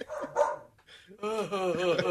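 A dog lets out a couple of short barks, then a brief pause, followed by a longer, wavering vocal yowl that rises and falls, fairly loud throughout.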